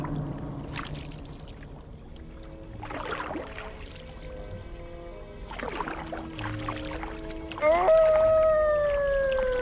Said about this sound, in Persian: و از کی تا حالا گربه ها زوزه می کشن؟ حیوانت خیلی عجیبه